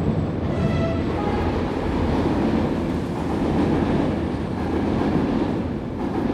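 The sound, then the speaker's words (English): A subway train rumbles steadily below street level beneath street grates, a dense, continuous low roar with faint metallic rattling and clatter that stays loud throughout. No voices. “If you want to outlast a cold night, stick to the subway grates.”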